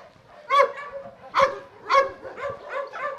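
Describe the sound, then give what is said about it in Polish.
Several dogs bark in a steady series of sharp, harmonic yaps, about four or five clear barks with quieter yips and whines between them, moderately loud. “Będą te pieski, które w tamtym roku były łańcuchem właśnie przywiązane w krzakach na polu.”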